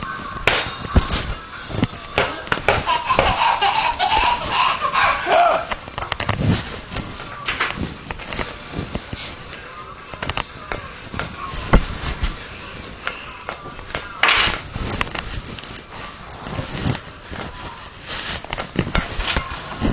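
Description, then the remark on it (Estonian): A ball bounces on a hard floor in a loose, irregular series of thuds, as a demonstration for someone to try bouncing it next, with faint background voices and room noise around the impacts. “Nii, proovi nüüd sina põrgata niimoodi.”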